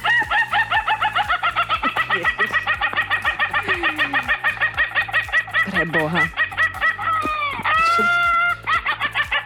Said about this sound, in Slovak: Čiže keď to budete počuť od suseda, tak je to Ayam Ketava. A ako to teda znie, keď ten kohútisko kikiríka, tak to smejúco sa?